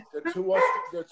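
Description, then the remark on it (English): Two Australian shepherd dogs, Gavin and Murphy, bark loudly, a quick run of sharp, overlapping barks with short gaps between them. “They're two Australian shepherds.”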